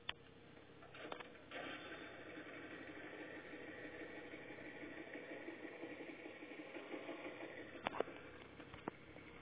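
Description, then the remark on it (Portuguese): A motor engine idles steadily with a low, even rumble throughout, broken by a few sharp clicks and knocks near the start and end. No one speaks. “Então, moleque, liga logo esse motor.”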